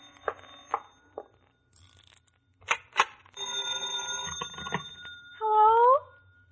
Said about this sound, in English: Answer that phone, will you?